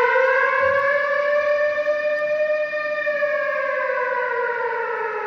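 A loud, sustained air raid siren wails steadily, its tone gently rising and falling in pitch throughout, with no voices present.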